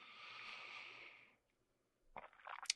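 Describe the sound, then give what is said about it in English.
Someone takes a quick drink of water: a steady, airy sip or pour lasting over a second, a brief pause, then a cluster of wet gulping and swallowing noises. No one speaks. “I will imbibe and take a quick drink of water here.”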